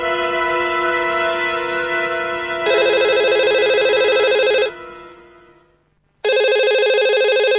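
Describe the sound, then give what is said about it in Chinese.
An urgent telephone rings loudly, a shrill electronic ring in long insistent bursts that stop briefly and then start again, early in the morning at six o'clock. “一阵急促的电话铃声之后，这已经是第二天的清早了。”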